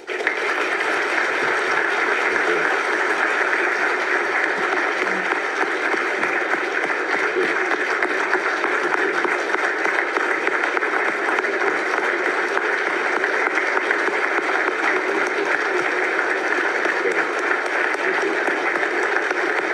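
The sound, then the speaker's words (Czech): A crowd applauds steadily for about twenty seconds, a dense, even wash of clapping that stays loud throughout with no voices over it. “Já myslím, že bychom si všichni měli občas takhle vesele zatleskat jako Tomio Okamura.”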